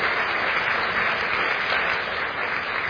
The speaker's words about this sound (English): First of all, children, that was amazing. Absolutely amazing. Give the children a round of applause. Absolutely brilliant.